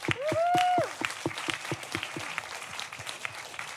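An audience applauds with a steady patter of claps, opening with a short rising-and-falling whoop or whistle, then continuing at a moderate, even level without speech.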